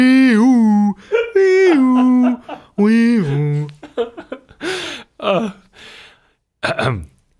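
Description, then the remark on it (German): A voice mimics a police siren with a few drawn-out, wavering howls that rise and fall, loud, then breaks into breathy laughter and short vocal bursts. “Hier ist die Thesenpolizei am Start. Ja, aber hallo. Aber die machen auch nicht, deren Sirenen sind nicht die sind so ganz komisch”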